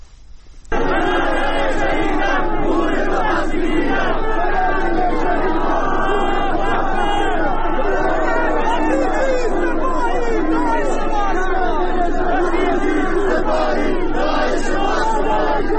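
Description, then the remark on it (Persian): A large crowd of hundreds of worshippers protesting after a sermon at the Makki Mosque in Zahedan, Iran, shouts and chants in unison, loud and continuous, with many voices overlapping in rhythmic slogans against the leader of the Islamic Republic and the Revolutionary Guards for the whole stretch after a brief quiet start. “تظاهر کنندگان شعارهای علیه رهبر جمهوری اسلامی و سپاهیان سر دادند.”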